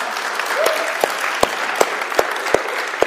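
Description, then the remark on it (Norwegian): An audience at G18 applauds the host for speaking Norwegian, steadily for about three seconds, a dense hiss of many hands with a few sharper, louder claps popping out at a regular beat. “Skal vi gi en applaus for deg?”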